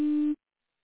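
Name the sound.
voicemail recording tone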